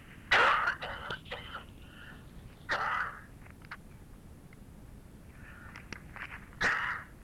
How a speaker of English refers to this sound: Coming back from vacation rendered me a little cough.